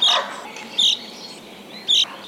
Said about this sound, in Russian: Вот когда зяблик такой звук издает, это значит, что он рюмит. Это бывает перед грозой или после грозы, когда у зяблика такое хмурое настроение, что ему и петь неохота.